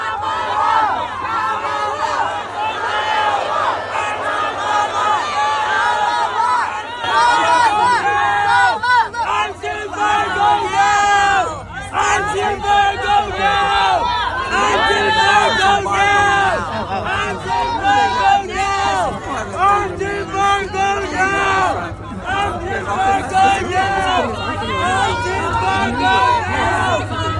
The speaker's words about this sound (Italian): Si tratta di alcuni manifestanti filo-palestinesi che hanno deciso di urlare tutta la loro rabbia contro la fornitura di armi degli Stati Uniti a Israele e gridavano appunto, lo sentite, embargo delle armi adesso.